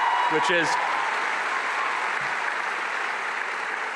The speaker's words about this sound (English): I'm so excited to see so many people applaud when I talk about Jesus. It's just amazing to see, honestly, on a college campus. Just so great.